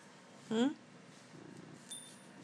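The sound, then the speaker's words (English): A cat named Simba purring softly while parading up and down a windowsill, with a brief rising trill near the start followed by a low, faint rumble. No one speaks. “He's just parading up and down the windowsill, purring.”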